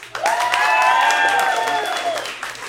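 An audience at a Moth story slam in New York breaks into a burst of clapping mixed with a few cheers and whoops, applauding if they are more of a cat person. The applause is dense and fairly loud, swells quickly, then tapers off over a couple of seconds.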